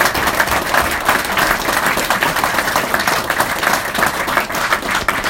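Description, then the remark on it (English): A large audience at a political speech applauds steadily after a mention of past two-term Republican governors, dense overlapping claps forming a continuous roar that holds at the same loud level throughout, with no voices breaking through. “Now that's applauding for the past.”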